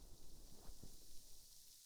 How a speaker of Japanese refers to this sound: 炭酸パチパチパチパチ。